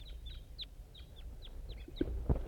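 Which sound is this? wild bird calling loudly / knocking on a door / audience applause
wild bird calling loudly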